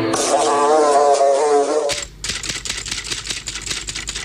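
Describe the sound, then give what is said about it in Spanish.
The fly buzz that identifies the show El Ojo de la Mosca: a loud buzz drones with a wavering pitch for about two seconds, then cuts off into a rapid run of dry, typewriter-like clicks and taps. “Identifica el zumbido de El Ojo de la Mosca.”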